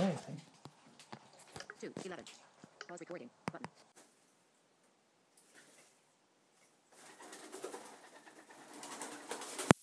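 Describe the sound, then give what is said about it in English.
A pet ringneck dove, Cody, gives its laughing call while trying to entice the other dove, Princess, into a game: a rapid run of rolling, chuckling notes in the first few seconds, followed by a quiet gap and then a stretch of rustling noise. “And Cody is trying to, they are our ringneck doves.”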